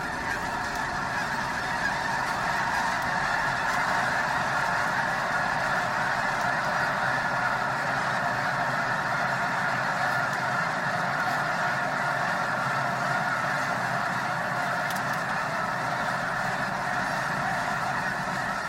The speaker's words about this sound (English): They took off in this incredible hurricane of birds, and it was sort of mind jamming. It was like a blocking thing happening in your head.